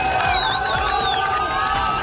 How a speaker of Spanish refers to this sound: Sonido en directo de la multitud ovacionando a los que llaman héroes de la resistencia palestina.